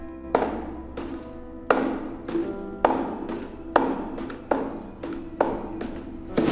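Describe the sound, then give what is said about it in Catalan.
Someone sitting on a classroom desk kicks a metal wastebasket about nine or ten times in an uneven rhythm until it tips over, in front of the open door. Each loud thud leaves a hollow metallic ring, and no one speaks. “capcot i trist, clava cops de peu contra la paperera fins que s'aboca, davant de la porta oberta.”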